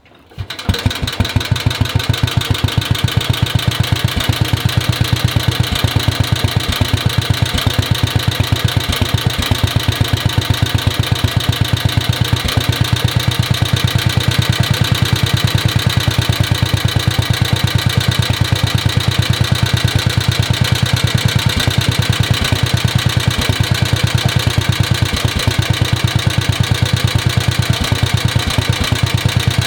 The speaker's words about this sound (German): Dann wollen wir uns jetzt diesen Bungartz L5 mal anhören, wie der so klingt.